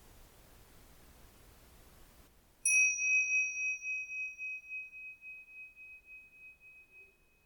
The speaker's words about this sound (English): You can use the sound of the bell to focus yourself.